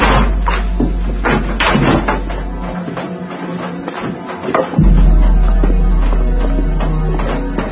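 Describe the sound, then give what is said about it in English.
Heavy hammering of lumber boards over downstairs windows, a series of loud, irregular thuds and bangs over a steady low rumble, with no voices. “Said they were gonna board it up.”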